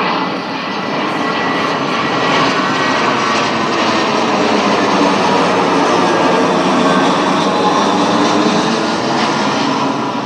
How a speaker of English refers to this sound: I'm also going to wait till about this point when the planes are going overhead